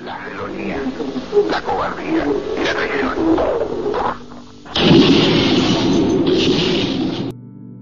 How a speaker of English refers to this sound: Those explosions were recorded in the actual radio broadcast.